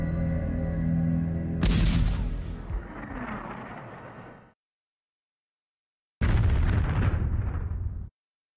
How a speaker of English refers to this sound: Numerous countries tested nuclear bomb explosions, seeking ways to strengthen their destructive force.